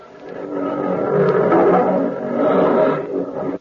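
Hungry lions roar loudly and continuously, with deep growling layers that swell and overlap for several seconds before trailing off abruptly. No one speaks.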